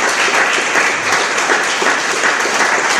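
A room full of people applauding, a dense, steady wash of many hands clapping at once, loud and close, sustained for a few seconds without pause.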